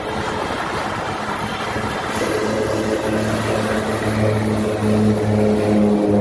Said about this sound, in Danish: Ja, brummen her, den kommer altså fra et vandfly, en lille rød flyver, der kan lette fra kort afstand og, som navnet antyder, lande og lette på vand. Den flyver mellem Aarhus og København, og den tager kun omkring 3 kvarter